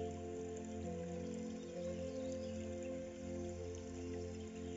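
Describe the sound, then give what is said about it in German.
A steady, continuous gurgle of flowing water from a babbling brook, soft and even throughout with no voices, like a small stream trickling over stones. “Mit geschlossenen Augen lässt sich das Murmeln des Baches noch intensiver erleben.”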